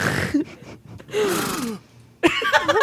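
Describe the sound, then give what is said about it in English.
A horse whinny sound effect and a sharp gasp sound effect, accidentally played at the same time, overlap in a couple of loud, breathy bursts with wavering, neighing tones, and a brief quiet gap between them. “I accidentally played the horse and the gasp at the same time.”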